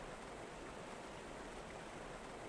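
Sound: babbling stream water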